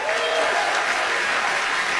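An audience applauds steadily, a dense, even wash of many hands clapping at a loud, constant level for a couple of seconds.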